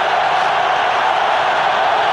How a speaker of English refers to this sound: Touchdown toss from Otten to Miller, another from Otten to Allred, and listen to the crowd roar.